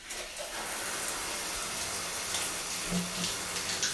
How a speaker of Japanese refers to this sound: よいしょ。ちょっとシャワー出すよ。うるさいかな。